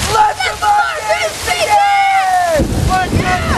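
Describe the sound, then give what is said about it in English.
Steady, splashing heavy rain pours down on two brothers in a glade during a lightning storm, fairly loud and continuous, with sliding whistled tones and wordless voices over it, growing noisier and rougher toward the end. “As rain pours down on the brothers,”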